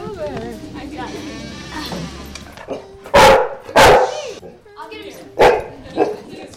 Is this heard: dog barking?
yes